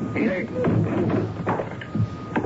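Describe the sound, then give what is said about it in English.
The locked door of Room 313 being broken down: several heavy, dull thuds land at uneven intervals, each a loud blunt impact, over a low steady hum and some indistinct vocal noise. “We'd better break the door down.”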